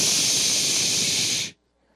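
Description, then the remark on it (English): A single loud, steady shushing hiss from a voice quieting a crowd, held for about a second and a half before cutting off abruptly into near silence. “It's always amazed me how well that works. You go, shh.”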